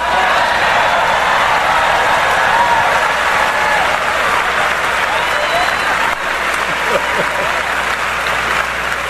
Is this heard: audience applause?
yes